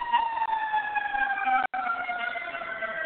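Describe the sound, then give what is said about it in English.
A siren wails steadily with a slowly falling pitch, as if an emergency vehicle is passing by, fairly loud and continuous apart from a momentary cut midway. “But when we start hearing sirens, okay,”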